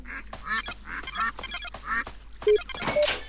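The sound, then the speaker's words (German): A heavy mausoleum door in a video game creaks open in a drawn-out series of squeaky, groaning bursts, fairly loud, with an eerie feel and no talking. “Oh, Mausoleum-Tür, oder?”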